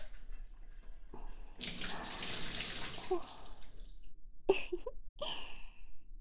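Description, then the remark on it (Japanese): Water gushes from a tap in a steady, hissing stream for a couple of seconds to rinse off foam, then stops, leaving a few splashes and drips. “先っぽの泡を落としてと、よいしょ、よいしょ。”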